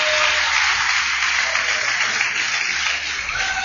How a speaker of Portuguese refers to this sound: Quer aplaudir esta palavra? Quer aplaudir esta palavra?